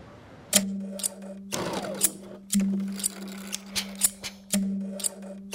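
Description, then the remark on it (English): Crisp scissor snips ring out in a sewing workshop on the 200 block of West Saratoga Street in Baltimore, Maryland, mixed with short whirring bursts of a sewing machine starting and stopping about every two seconds; clear, with no talking. “It's the music that I listen to every day. You literally have calluses on the backs of your knuckles from those scissors.”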